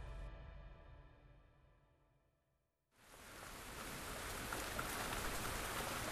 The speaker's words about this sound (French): Nous sommes le 14 novembre 1876. Il pleut. Les nuages arrosent copieusement Paris.